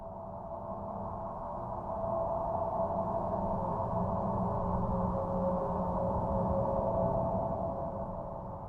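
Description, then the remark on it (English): An eerie space recording said to come from Jupiter: a steady, low electronic drone with sustained humming tones, holding at an even moderate level for several seconds with no voices. “This is the sound that Jupiter makes.”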